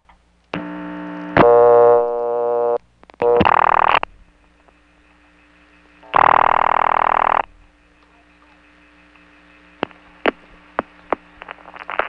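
A Bell System CDO step-office telephone line being dialed with a digit other than zero: a buzzing dial tone, short bursts of harsh line tones, then a few sharp, evenly spaced clicks of the digit being pulsed out. No voices.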